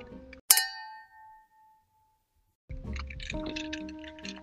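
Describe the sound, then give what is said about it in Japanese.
A single bright glass clink from a toast rings out and fades over about a second and a half, followed by silence and then soft fizzing and pouring sounds of a soda-mixed drink. “じゃあちょっと今日はほどほどにしながら、じゃあ乾杯からよろしくお願いします。乾杯。”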